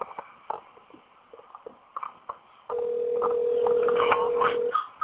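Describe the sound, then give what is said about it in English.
A telephone dial tone hums steadily for about two seconds over a thin phone-line hiss as a call is placed, preceded by soft scattered clicks and handling noises. “We're going to give him a call.”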